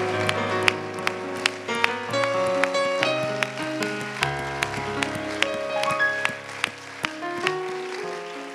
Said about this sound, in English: Let's everybody give the Lord a hand clap of praise.